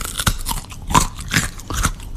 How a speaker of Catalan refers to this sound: Ho sents? És el cruixit del llardó, l'olor de bunyol i la festa que s'acosta, al Carnaval.